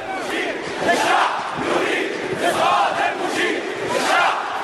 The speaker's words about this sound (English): In Tahrir Square, demonstrators continue to defy the military authorities. The crowd often breaks out into the same chant. The people want the downfall of the field marshal, referring to the leader of the military council.